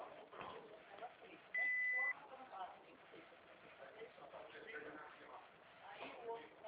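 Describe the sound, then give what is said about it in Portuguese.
A single steady electronic beep of about half a second rings out loud and clear, like a voicemail prompt, over a murmur of background voices and noise. “Após o bip, deixe seu recado.”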